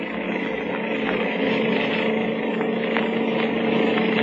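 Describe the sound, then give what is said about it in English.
A motorcycle ridden by the Blue Beetle drones at speed, a steady, continuous roar with a buzzing hum that holds at an even loudness throughout. No one speaks. “Now, this motorcycle can certainly travel.”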